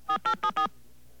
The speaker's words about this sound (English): I don't know what happens if you don't have a touch-tone phone.